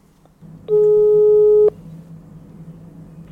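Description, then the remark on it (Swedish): A single steady electronic ringback tone sounds for about a second, loud and clear over a low background hum, as an outgoing phone call rings on the line. “Så att vi ringer och kollar vad hon gör.”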